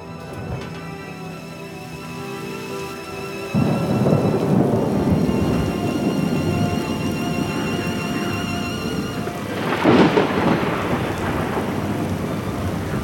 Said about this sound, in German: Tropische Regengüsse prasseln hernieder in die brodelnde See. Der Sturm heult. Der Himmel ist grau. Völlig eingehüllt in schwere Regenwolken.